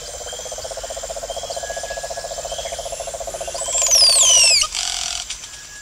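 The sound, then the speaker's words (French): A dense Amazon rainforest chorus in Peru of steady pulsing calls and high insect buzzing, with a bright bird whistling a few quick descending notes near the end, fairly loud. “Il y a des singes, des oiseaux, des colibris.”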